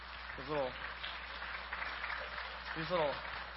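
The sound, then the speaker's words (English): An audience applauds after a sermon in a steady, dense wash of clapping that continues throughout, while a man's voice speaks briefly over it twice. “I should have mentioned this before the clapping.”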